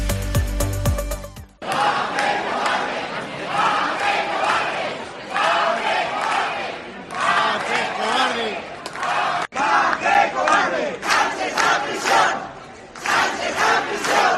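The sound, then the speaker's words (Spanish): About 200 people shout and chant together against the amnesty in loud, rhythmic bursts of protest outside the Socialist Party headquarters on calle Pedro Coca in Albacete on a Monday, voices overlapping continuously, after a brief electronic jingle at the start. “Ante la sede del Partido Socialista en la calle Pedro Coca, cerca de 200 personas se dejaron escuchar este lunes con gritos en contra de la amnistía a los condenados por el proceso de Pedro Sánchez y de Emiliano García Page.”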